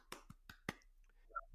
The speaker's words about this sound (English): Golf clap.